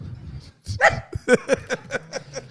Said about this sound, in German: Ist da ein kleiner Hund drin?